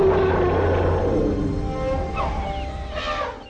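A deep, rumbling animal roar opens, then gives way to a couple of brassy, wavering elephant trumpet calls near the end, loud, with no voices.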